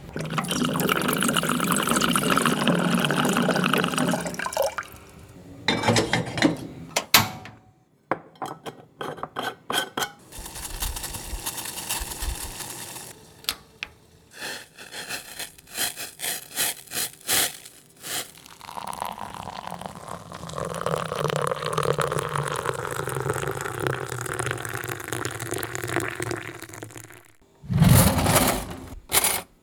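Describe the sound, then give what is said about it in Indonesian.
Coffee being made late at night, around 11:45 pm, in a classic way with water boiled from a water gallon jug: water pours and trickles while cups and spoons clink and clatter in short bursts, with a steady run of liquid sound between the knocks. No one speaks. “Kita bikin kopi dulu.”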